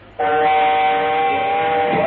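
A train horn sound effect sounds one long, loud, steady blast that starts abruptly and holds its rich, droning chord to the end, with no voices present.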